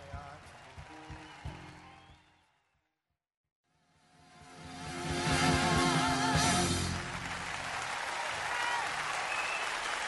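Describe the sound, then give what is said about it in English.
A concert crowd at the Budokan claps and cheers at the end of the show on a live album, starting faint, dropping to a brief silence, then swelling into loud, sustained applause with whistles that carries on to the end. “It's got a crowd there.”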